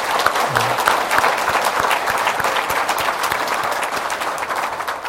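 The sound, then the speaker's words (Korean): A church audience applauds steadily for about five seconds for a missionary's wife serving in Kazakhstan, a dense wash of many hands clapping at an even, fairly loud level with no talking over it. “그 약국을 경영하시다가 땡중에 부르심을 받고 카자흐스탄에 가셔서 열심히 수고하시는데 우리 사모님 위해서도 박수 한번.”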